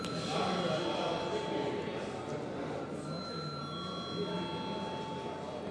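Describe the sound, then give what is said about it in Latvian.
A steady electric bell rings continuously for several seconds in a parliament chamber before a secret-ballot vote on appointing a judge, its bright sustained tone carrying while a low murmur of voices continues underneath. “Paldies, lūdzu zvanu.”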